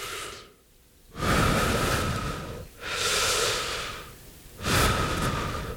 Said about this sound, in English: And the way I learned how to be still, I start breathing in.